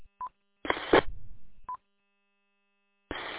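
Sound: telephone keypad button tones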